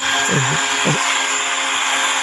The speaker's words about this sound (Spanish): Mira, hasta aspiradora. Hombre, es un ruido muy relajante, ¿eh?